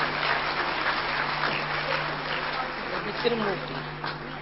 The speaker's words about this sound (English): So, give him a hand. Let us clap.